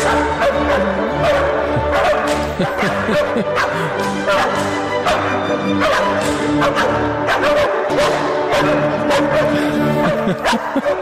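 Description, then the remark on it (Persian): Three dogs bark and yip repeatedly over loud, continuous orchestral classical music at a Mozart classical concert, where a Mozart piece was performed with the dogs' accompaniment; their sharp barks cut through at irregular intervals. “تو کنسرت موسیقی کلاسیک اونم موزارت؟ بله.”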